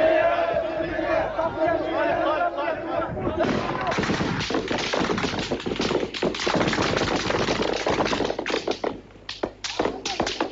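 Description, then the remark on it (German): A crowd of unarmed protesters with raised arms chants "Friedlich, friedlich" in unison while walking towards soldiers. Then the soldiers open rapid fire with live ammunition from very close range, many sharp shots cracking in quick irregular bursts over shouting voices until near the end. “Mit erhobenen Armen gingen Protestierende auf Soldaten zu und skandierten »Friedlich, friedlich«. Dann fielen Schüsse, Demonstranten gingen zu Boden.”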